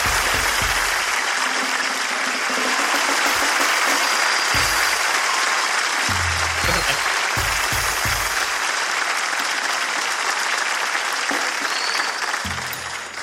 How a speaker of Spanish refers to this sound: Hermano, qué buen público el de hoy día. Un fuerte aplauso para ustedes. Lo están haciendo muy bien.